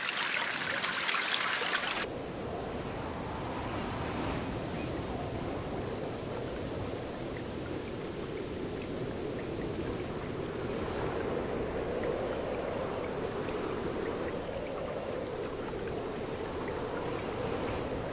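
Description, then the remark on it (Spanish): Steady trickling and dribbling of spring meltwater from melting ice in the Arctic runs continuously, a busy watery texture with a brighter hiss in the first couple of seconds, then an even flow with no voices. “El goteo continuo de la primavera resuena en el Ártico.”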